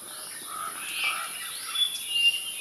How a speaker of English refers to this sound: listen to now Sarah's bird song, the one she recorded. Do write in and tell Sarah, tell all of us, because we're all very curious now, which bird this is.